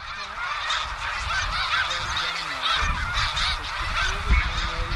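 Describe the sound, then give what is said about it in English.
A large flock of snow geese rising up into the air, probably disturbed by a hawk, honks in a dense, overlapping chorus, hundreds of calls blending into a continuous, loud clamor that never pauses. No one speaks. “and when the birds rose up, probably because of that hawk, so did he.”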